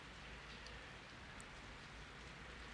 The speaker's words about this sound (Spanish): Y para algunos de ustedes es posible que escuchen el sonido de la lluvia.